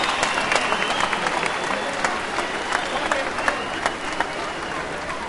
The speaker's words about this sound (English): Family members, friends and supporters marched from Rossville Street to the Guildhall Square just after 3 o'clock, and as they made their way to the square, they were met with a rapturous round of applause.